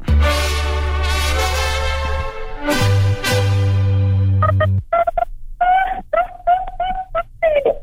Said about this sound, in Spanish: Su teléfono. Yo creo que era tu teléfono. Exactamente.